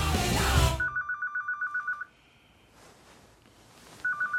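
A mobile phone ringtone of rapid electronic beeps pulses steadily for over a second, falls silent, then starts again, following a brief burst of rustling noise at the start.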